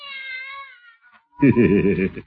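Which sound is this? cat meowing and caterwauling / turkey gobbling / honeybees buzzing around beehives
cat meowing and caterwauling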